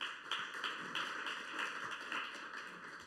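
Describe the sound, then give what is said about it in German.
Steady audience applause for a young woman volunteer, a dense patter of many hands clapping at once that holds at an even, fairly soft level throughout, with no voices over it. “Ein Applaus für die junge Dame hier.”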